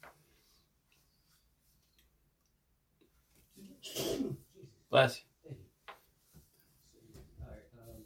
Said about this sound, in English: Bless you.